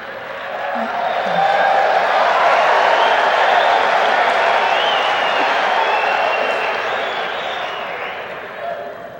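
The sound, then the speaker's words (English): A crowd of men cheers and applauds, a dense wash of voices and clapping that holds steady and loud for several seconds before easing off slightly at the end. “Sounded like the men that were cheering on that one.”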